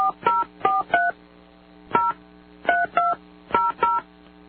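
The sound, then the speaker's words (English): A series of about ten touch-tone telephone dialing beeps, each short dual-pitched tone pressed in quick uneven clusters with brief pauses, clear with a faint background hum, as someone dials a man's work number. “Well, now I'm trying his work number.”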